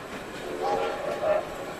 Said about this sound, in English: Soon he sees some red and green lights and the noise of a train.